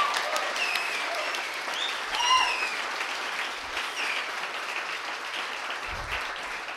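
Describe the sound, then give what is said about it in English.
An audience at a literary reading claps for David Kirby, a dense, continuous wash of applause that holds at a fairly even loudness throughout, with a few brief whoops or voices rising above it. “Okay, let's give one more round of applause to David Kirby, please.”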